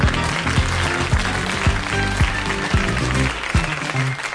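Theme music plays loud and full, driven by a steady thumping kick-drum beat about twice a second under a dense, bright wash of instruments. No one speaks.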